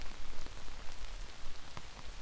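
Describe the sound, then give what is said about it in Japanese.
Steady rain patters on hard surfaces, a dense hiss of drops with scattered sharper taps and splashes standing out from the constant wash, no voices present. “雨宿りできるとこ、知ってるけど。”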